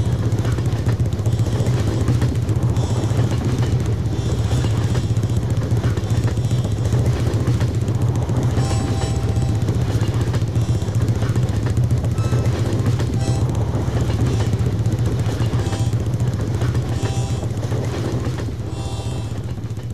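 A steady, loud low rumble of a moving train rolls on without pause, a continuous droning roar with faint rattling and clatter layered on top, even throughout.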